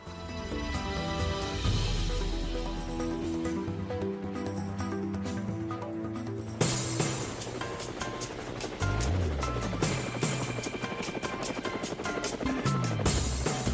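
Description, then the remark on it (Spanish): Loud, steady thumping of helicopter rotor blades runs throughout, blended with a busy, layered musical backdrop that grows more percussive halfway through. No one speaks. “Bueno, amigos de Cuba, ahí están las aspas, pero del helicóptero.”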